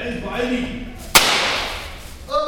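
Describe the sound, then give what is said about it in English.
A single sharp, loud crack of a small firecracker bang, followed by a brief hissy decay, with a person talking just before and again after it. “Small firecracker.”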